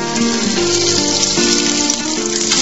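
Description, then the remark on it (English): Fritters spiced with garam masala and cumin sizzle in hot oil in a frying pan with a dense, steady crackle that stays loud throughout, while soft tonal music plays faintly underneath. “If you get it right, the hot oil seals the outside of the fritter while the moisture inside steams and cooks it through.”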